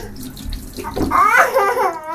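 Running water pours steadily throughout as a baby is washed, with a brief high-pitched voice-like sound rising above the splashing midway through.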